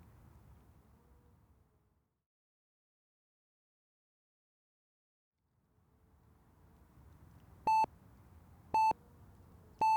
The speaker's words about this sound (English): Rolling over in bed, her clock's bright digital light blinded her as its recurrent buzzing forced her into her morning routine.